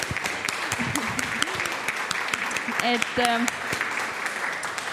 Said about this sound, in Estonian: Võime aplausi ka talle teha.